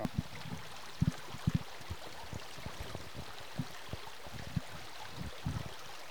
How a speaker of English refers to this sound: we're right down here on the creek